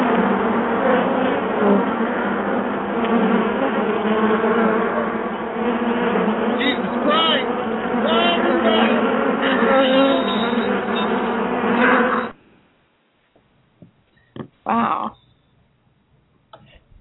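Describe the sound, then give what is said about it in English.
A dense, droning buzz of many bees in a studio, loud, holding steady for about twelve seconds before cutting off abruptly into near silence broken by a brief faint sound. “Yeah, we got bees here in the studio.”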